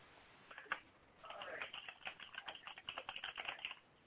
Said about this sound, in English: I hear typing. What's going on in the chat room? Nothing is actually going on in the chat room. I was typing up something else.